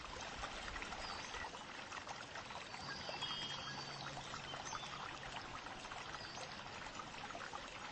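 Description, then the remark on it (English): Soft, steady bubbling water trickles continuously throughout, a quiet and even flow with no voices or other sounds breaking through. “Quiet bubbling of the water is soothing.”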